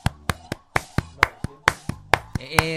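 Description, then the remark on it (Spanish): About a dozen sharp, loud hand claps from a woman making churrasca, played on a radio broadcast, in a quick, fairly steady rhythm, with a faint tonal sound underneath and a sustained higher tone rising at the very end. “¿Y ese aplauso de qué?”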